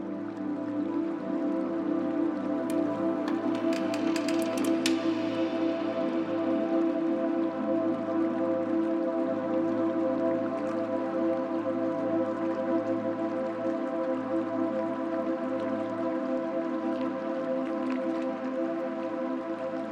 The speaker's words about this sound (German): Das sanfte Tropfen von Wasser holt dich wieder zurück.